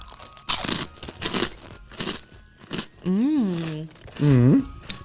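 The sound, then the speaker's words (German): Loud crunching and chewing of a speculoos-flavored cookie in several irregular bites, followed by two drawn-out, pleased humming 'mmm' sounds from the eater. “Oh, aber wirklich, jetzt schmatze ich wieder hier rein, das ist wirklich Spekulatius-Flavor.”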